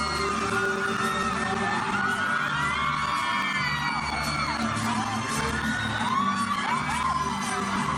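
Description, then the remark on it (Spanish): A large concert audience screams and cheers in euphoria after a fan kisses a Mexican singer on stage, a dense, sustained roar of many high-pitched voices with overlapping shrieks and whoops, loud and continuous throughout. “Como pudieron apreciar, el beso fue correspondido por el cantante mexicano y provocó gritos de euforia en el público.”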